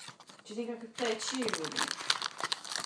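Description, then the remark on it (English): Continuous crinkling and rustling of lots of little pieces of concertina paper being rummaged through in a box, busy and crackly, with a brief murmuring voice near the start. “Let me just see if there's anything left in the box, apart from bits of paper and stuff.”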